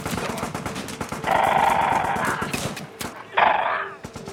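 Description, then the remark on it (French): A loud, chaotic battle soundscape of cannonade and gunfire: continuous crackling gunfire with rapid volleys, punctuated by heavier cannon blasts and rushing surges of noise, dense with no voices. “Parce que la canonnade, le bruit de la canonnade porte loin.”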